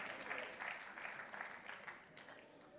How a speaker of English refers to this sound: Can we give it up for 10 days? Can I get a hand clap from the coffee drinkers in the house?